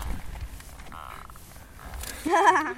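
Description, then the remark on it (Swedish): A low, steady background hum gives way near the end to a sudden loud frog croak, a buzzy, harmonic, slightly warbling call lasting about half a second, as the frog's vocal sacs under its chin inflate for resonance. “Just nu så kväker de bara för att säga att jag är Hanne, så håll inte om mig.”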